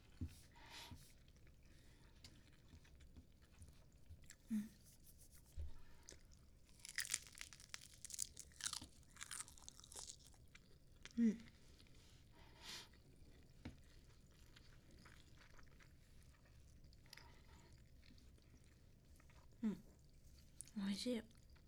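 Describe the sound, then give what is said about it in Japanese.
Crisp tearing of dry nori seaweed wrapping followed by soft, moist chewing of rice, with bursts of crinkly high-pitched rustle between quieter mouth sounds and a few faint low murmurs. “うん、ね、海苔を飛ばさないようにしないと。”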